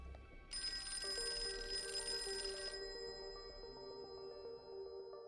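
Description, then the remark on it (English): A telephone rings at the Leninger house as a police lieutenant calls, a bright, sustained electronic trill followed by a steady lower ringing tone that continues to the end, clear with no talking. “When he called the Leninger's house, Mrs. Leninger picked up the phone.”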